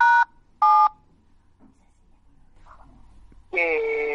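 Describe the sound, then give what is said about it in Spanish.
Two short, loud keypad dialing tones beep in quick succession, followed by quiet background noise and then a burst of talk. “¿Hay algún teléfono que se está marcando?”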